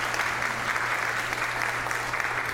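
Steady applause from an audience, a dense, even patter of many hands clapping at a constant moderate level throughout, with no voices standing out.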